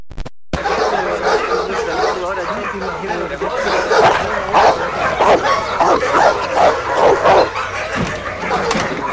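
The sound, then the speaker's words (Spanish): A dog barks and yips repeatedly in short, sharp bursts at close range, with brief whimpering sounds mixed in over steady background noise; people can be heard talking at the same time. “Este debe ser de los que tuvo con el perro de Rota Tagliata.”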